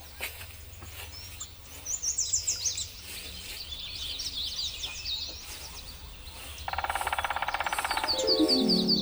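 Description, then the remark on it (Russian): Birds chirp and tweet in a forest, with bursts of high twittering calls over a low rumble of ambience, followed by a louder, rapid buzzing trill near the end. “Кто это мне здесь птиц пугает?”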